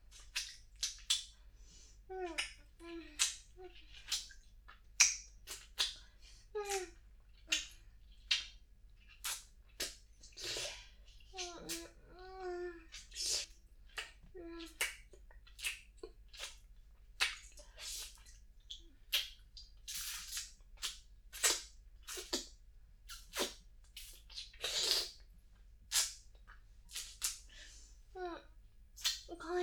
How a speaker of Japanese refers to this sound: じゃあ、いっぱいチュパチュパしてあげるね。